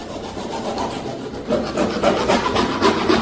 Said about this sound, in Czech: právě krátí trubku do koupelny.